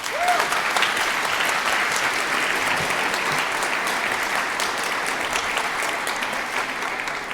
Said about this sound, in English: Please give a warm applause, a warm welcome, and I'm very excited for this next talk.